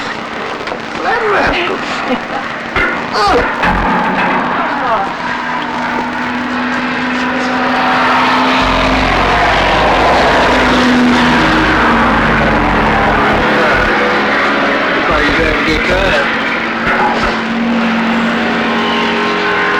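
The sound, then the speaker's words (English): A small propeller airplane, overhauled by its pilot, drones overhead, its steady engine hum swelling louder about halfway through as it passes, then holding strong; faint voices murmur beneath it. “Yeah, he'll fly down there now and circle around over her.”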